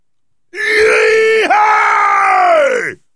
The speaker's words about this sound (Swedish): Det skräckinjagande, vansinniga skriket kom från mannen som höll i tömmarna, Gape Rapkäft.